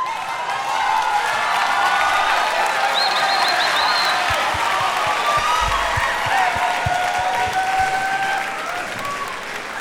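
Sustained audience applause welcoming performers fills the whole stretch, a dense wash of clapping mixed with crowd cheers and whistles, loud and steady before easing slightly at the end.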